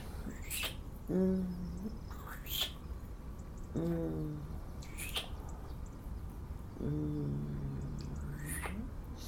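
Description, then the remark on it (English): Birds call outdoors, with sharp high chirps every few seconds and three longer, lower hooting calls repeating at a steady pace over a constant background hiss. “Birds are singing.”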